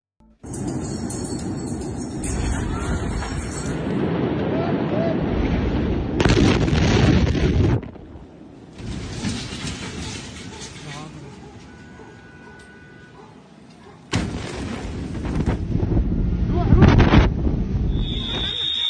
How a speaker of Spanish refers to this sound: Vamos a ver el video de la explosión